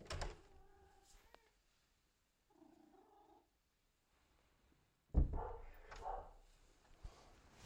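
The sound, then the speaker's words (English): A cat meows twice, with a pause between the cries, then a louder clatter and creak as a door is opened to let the cat into the kitchen on a Sunday morning, followed by some shuffling. “The cat wants to come into the kitchen. And the dog wants to come into the kitchen. I think I'll let the cat in first.”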